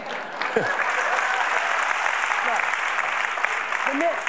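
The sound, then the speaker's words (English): Steady, dense applause from a largely female audience at a talk about the brain, a continuous wash of many hands clapping at an even loudness throughout, with a few faint voices mixed into the crowd. “The men are saying, what are you clapping for?”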